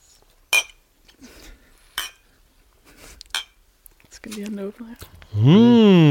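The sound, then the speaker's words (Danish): Three sharp glass clinks spaced about a second apart as people toast with glasses of kombucha, with quiet sips and handling between them, followed by brief voices and a loud, sustained hum of approval. “Det er jo som bekendt ikke så fed radio og podcast at høre på nogen, der drikker.”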